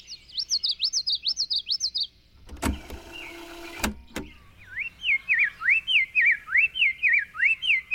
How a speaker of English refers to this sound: Back in the 70s, he recorded birds on tape at high speed, then played the tape back at half speed. Slowing the songs down also lowered their pitch.